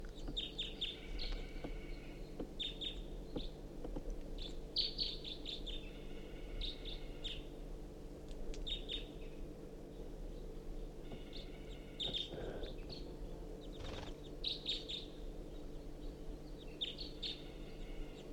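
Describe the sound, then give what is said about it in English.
A single crossbill foraging in a ponderosa pine directly above a truck gives repeated short, sharp chip calls in irregular bursts, against a steady low rumble of background noise. “There is a crossbill, I think one bird, foraging in the ponderosa pine directly above the truck.”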